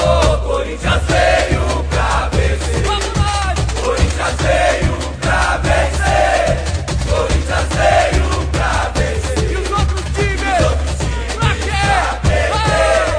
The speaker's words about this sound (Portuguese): E é assim, com seus cantos e gritos, que os milhares de torcedores ajudam lá das arquibancadas os 11 jogadores que estão em campo.